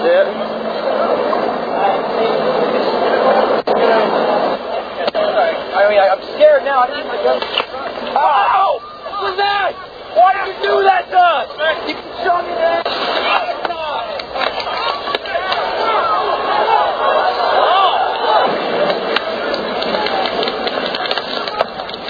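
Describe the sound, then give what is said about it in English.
Less-lethal guns fire rubber bullets in a string of sharp, fairly muted pops at irregular intervals, heard over a constant wash of crowd noise and indistinct voices. “If you listen carefully, you can hear the pops of the guns. They're not as loud as regular firearms.”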